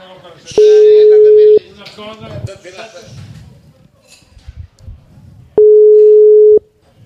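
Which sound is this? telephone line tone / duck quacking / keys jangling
telephone line tone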